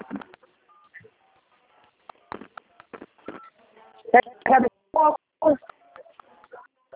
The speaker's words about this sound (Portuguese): afasta o rosto um pouquinho do celular, acho que tá digitando o número, não tá dando pra entender.